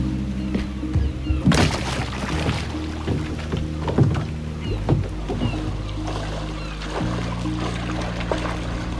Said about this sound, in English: Okay, hold on. I'll kayak over to you, okay?